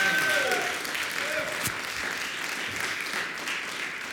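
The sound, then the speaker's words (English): An audience at a church service claps hands together in sustained praise to God, a dense, continuous wash of applause at steady volume for several seconds. “Give God a hand clap of praise today in the house.”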